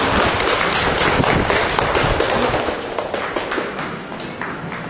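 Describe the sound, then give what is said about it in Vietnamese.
An audience claps steadily for several seconds at a speaker's request, the dense patter of many hands gradually tapering off toward the end. “Bảo Lộc, chúng tôi một tràng pháo tay nữa thưa anh chị em.”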